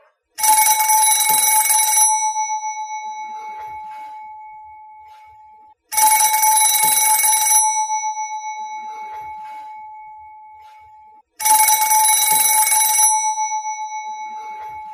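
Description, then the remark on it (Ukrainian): A telephone rings unanswered at night, three times, each loud, jangling bell burst lasting about two seconds and followed by a fading ring-out before the next, in steady intervals with no one speaking. “Знов задзвонив телефон.”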